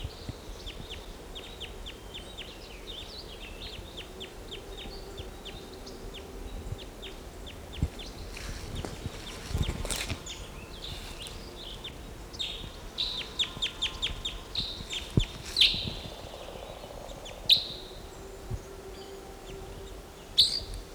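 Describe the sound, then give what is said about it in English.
A bird calls from a tree with bursts of quick, high, dry chips, occasionally broken by a few sharper, louder notes, over a steady low background hiss. “Here's one of the birds.”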